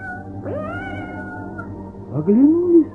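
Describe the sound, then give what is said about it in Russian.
A cat, Murenka, meows twice, a drawn-out meow followed by a shorter, louder one after a brief pause, with no talking. “слышат, мяукает кто-то сзади.”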